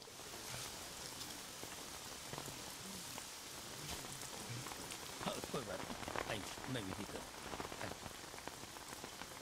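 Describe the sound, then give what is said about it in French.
Steady rain pours down in a funeral scene of the film La famille indienne, a dense hiss of drops pattering on a hard surface, with sharper individual splashes standing out, continuous throughout. “Ainsi, on se retrouve dans le film La famille indienne avec une scène d'enterrement où il pleut pour montrer la tristesse, mais où il fait aussi très lumineux pour symboliser l'espoir marqué par l'arrivée de l'un des personnages.”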